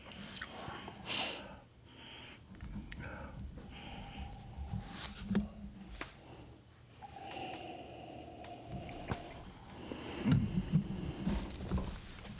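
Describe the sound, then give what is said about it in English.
People take small sips of whiskey, with quiet slurping mouth noises and faint glass clinks scattered irregularly, no talking. “Well, we're all taking our little sips first, so let's see.”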